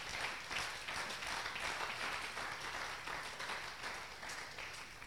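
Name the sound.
audience clapping hands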